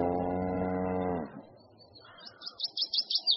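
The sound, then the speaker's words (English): A single long, deep cow moo with rich harmonics lasts about a second, then fades out, followed by a quick series of high chirping bird calls in the background. “I'm going to sell this cow.”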